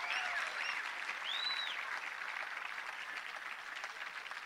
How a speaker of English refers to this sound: Let's just have one more little round of applause for these folks. They are dynamite.